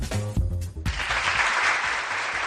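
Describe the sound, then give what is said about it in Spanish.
A short tonal snippet cuts off and a crowd breaks into steady applause, marking news about the presenters of the 2024 Goya awards; dense overlapping clapping that stays loud and even for about two seconds. “Y este aplauso porque los presentadores de los premios Goya 2024, Anabel, Javier Ambrosi y Javier Calvo, han rodado ayer mismo el spot oficial de la gala en Valladolid”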